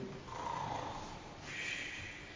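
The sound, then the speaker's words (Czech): A man snores once, a rough, raspy rattle of breath that shifts in pitch midway, fairly quiet, with no talking. “On je chrápe, já ti to nevěřím, že spíš.”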